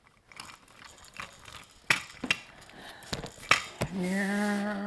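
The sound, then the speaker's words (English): A baby gnaws on the wheels of a plastic toy car, making a string of sharp clicks, taps and crunchy scrapes at an uneven pace, followed by a steady, sustained voiced tone at the end. “That's a nice car, you can chew that one.”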